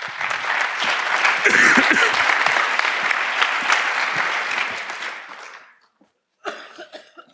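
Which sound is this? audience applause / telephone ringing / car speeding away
audience applause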